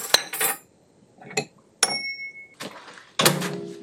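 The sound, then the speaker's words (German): A microwave being switched off after warming food for one minute: a few sharp clicks and clunks of its door and handling, a brief steady electronic tone, then dishes clattering. No one speaks. “So, Mikrowelle aus.”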